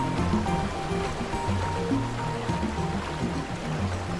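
Water rushes and gushes steadily past a rocky bank for the whole stretch, a loud, continuous churning like a fast stream tumbling over rocks, with no voices.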